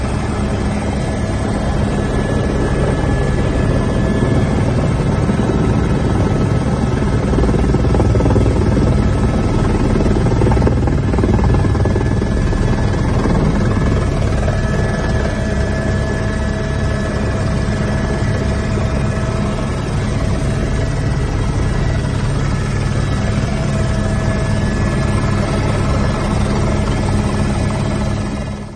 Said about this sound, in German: Aber ich habe zweimal die Chance gehabt, mit dem Helikopter über den Vulkan zu fliegen.